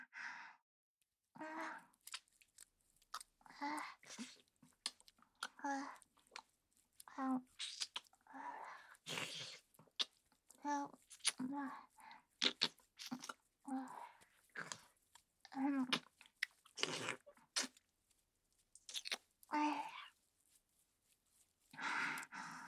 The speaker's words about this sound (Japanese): じゃあもっとペロペロするにゃ。ご主人のお耳いっぱい舐めれて嬉しいにゃ。